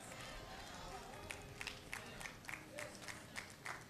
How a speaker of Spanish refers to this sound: Tres aplaudieron. Tendré pocos diáconos yo entonces.